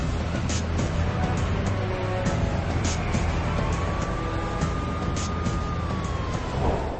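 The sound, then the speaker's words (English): Busy outdoor ambience at the Lone Star Roundup classic car show in Austin, Texas, where all cars are 1963 or older: steady engine rumble and crowd bustle, scattered clicks and knocks, and a faint wavering tone, like a siren or horn, drifting through the middle. “We're here at the Lone Star Roundup in Austin, Texas.”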